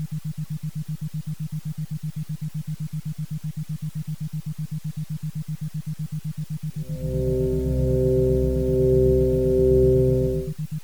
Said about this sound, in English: Continue now, as you listen to the tones, to visualize your perfect, peaceful place.